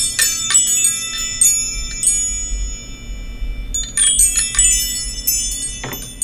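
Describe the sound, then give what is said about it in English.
Well-tuned wind chimes in E major ring out in bright, overlapping metallic tones, with clusters of strikes that sustain and shimmer, pausing briefly before another flurry of chiming begins. “Well tuned chimes. Nice E major chimes.”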